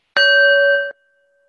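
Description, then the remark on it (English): A single loud strike on a gong, rung to begin a moment of silent meditation during a service, its bright metallic tone ringing steadily before cutting off sharply, leaving a faint lingering hum in otherwise silence. “So I'll ring the gong and you can breathe together.”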